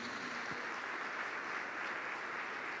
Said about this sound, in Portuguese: Glória a Deus por isso. Pode aplaudir Jesus.